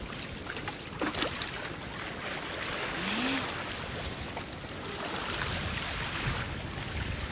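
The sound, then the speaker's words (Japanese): Gentle sea waves wash up and draw back in a continuous soft roar, swelling slightly then easing, with a faint breeze brushing the microphone and no voices. “引いていきます。はい、次のが押してきました。”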